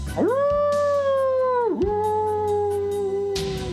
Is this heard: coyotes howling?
yes